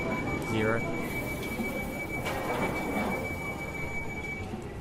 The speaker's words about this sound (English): This train is ready to depart. Closing door. Please stand clear of the doors.